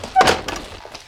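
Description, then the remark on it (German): A workshop door is pushed shut, with a brief squeak and a solid thud, followed by a few softer knocks and rustles as it settles. “Komm rein, aber mach die Tür wieder zu.”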